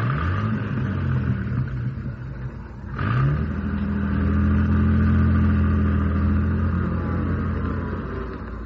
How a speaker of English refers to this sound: Okay. Now, drive this jalopy across the road.